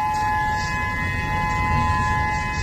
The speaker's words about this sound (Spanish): Hace 24 horas les contábamos cómo las alarmas de tsunami sonaban en el Pacífico.